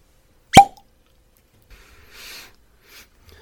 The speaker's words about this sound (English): Is the cracking of the bottle. Oh, yeah, the opening of the bottle. So this is a traditional bottle with a traditional cork. You know, some of them have unique features to them. This one, not so much.